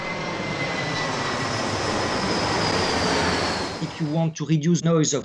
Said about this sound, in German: Wenn Sie den Lärm verringern wollen, der von einer Flugzeugturbine ausgeht, dann ist das nur mit einer Metaoberfläche möglich.